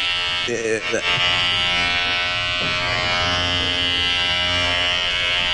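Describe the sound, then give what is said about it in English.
An electric razor buzzes loudly and steadily throughout, a dense, high-pitched motor drone, with a brief burst of voice near the start. “It's like a drone razor now.”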